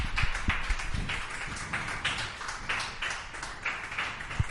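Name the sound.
applause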